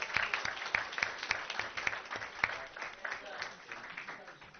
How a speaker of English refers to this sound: And last but most certainly not least, Orangewood Elementary, who surpassed even 100% and is at 102% in their PTA membership. Big round of applause.